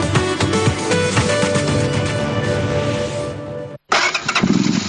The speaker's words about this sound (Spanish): ¿Has visto, chaval, cómo suena mi moto?